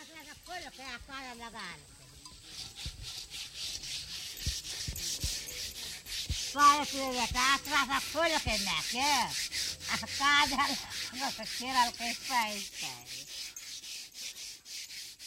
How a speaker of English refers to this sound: This is how dishes used to be washed before we invented all those liquid soaps. You take the ashes from last night's fire, mix them with a little water, and then use the mixture to scrub the pots and pans. It's an incredibly effective scourer,